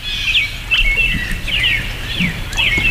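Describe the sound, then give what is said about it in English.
Birds chirp repeatedly in quick, bright bursts of high twittering by a babbling brook in autumn, several calls overlapping in a steady outdoor chorus with faint low background noise. “Hey, birds.”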